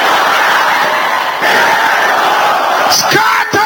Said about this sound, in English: Can I hear the sisters shouting it again? All these people on the gallery, can I hear you shouting it loud? Your voice is not loud enough. Loud and clear.